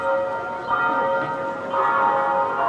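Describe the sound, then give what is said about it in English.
A church bell in North St. Louis County strikes noon on the Feast of Our Lady of Guadalupe, tolling repeatedly at a slow, steady pace, each loud toll ringing out and overlapping the lingering hum of the last, with no voices present. “As the bell strikes noon in North St. Louis County, more than 300 people break out in song as they process around Holy Trinity Catholic Church.”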